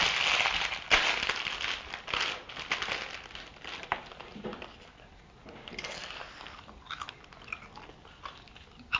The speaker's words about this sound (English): That'll have a nice sound of you eating crisps.